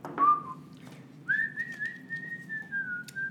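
A person whistles a short melodic phrase: a brief note, a pause, then a long sustained pitch that wavers slightly, heard close and clear over a low background hum.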